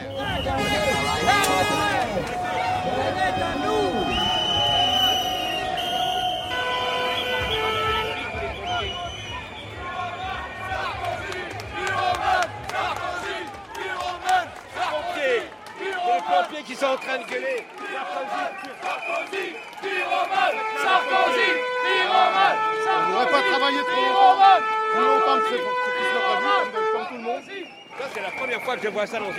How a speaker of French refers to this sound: Des pompiers avec jolies de classe collées dans le dos, des filles pompières avec la banderole des alternatifs, des rouges et verts. Ils sont quand même une petite cinquantaine à gueuler le NPA.